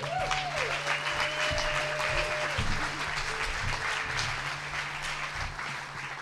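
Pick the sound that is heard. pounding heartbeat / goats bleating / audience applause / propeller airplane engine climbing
audience applause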